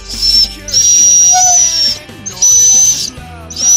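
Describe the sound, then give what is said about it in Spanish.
A dog named Nublo gives a high-pitched, whistle-like whine calling its owner to play, four sustained piercing bursts of varying length with short breaks between them, loud and with no talking. “Da igual lo que yo esté haciendo, que me dice humana para que nos toca jugar. Me hace este sonido.”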